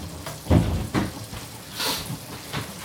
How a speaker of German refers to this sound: Oh, das kocht ja jetzt so doll. Warum kocht das jetzt so doll?